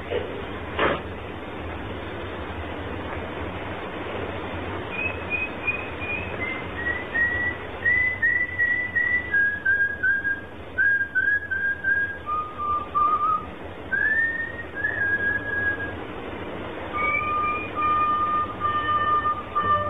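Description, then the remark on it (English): A person in the street whistles a wandering melody of clear tones that dip and rise, moderately loud over a steady low background rumble, with no talking. “And when you get into the street safely, don't forget to whistle.”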